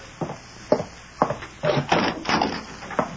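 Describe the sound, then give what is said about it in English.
A wooden door is opened: a few sharp clunks from the latch, then a rough, creaking scrape as it swings, ending with another soft knock. No voices. “See who's at the door. No, no. It might be... I'll open it myself.”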